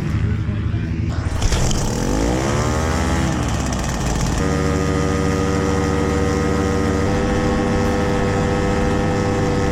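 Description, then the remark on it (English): The engine of a small Easy Riser ultralight aircraft in flight revs up with a rising, buzzing whine, then settles into a loud, steady drone that carries on without pause. “Today, we're looking back at another wild aircraft from the past. Say hello to the Easy Riser.”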